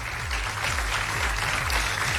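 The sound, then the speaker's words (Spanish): Sustained audience applause for the jury of the Pulsar awards, a dense steady wash of clapping from many hands, with a low rhythmic pulse repeating underneath throughout. “démosle un fuerte aplauso a todo el jurado de los Pulsar que tienen una tarea tan, tan, tan difícil.”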